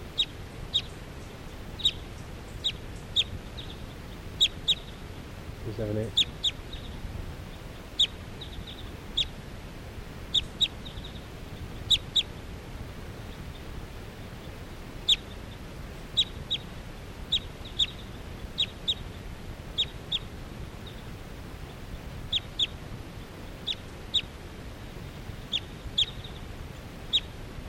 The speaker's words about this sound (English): That one wild bird that was just calling came back in. This is still 378 calling.